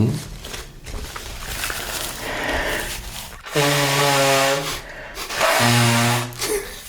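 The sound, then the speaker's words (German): Soft rustling and rubbing, then someone blows their nose twice in loud, honking bursts with a buzzing, tonal edge, the second blast shorter than the first. “Ich muss mich nochmal schnauben.”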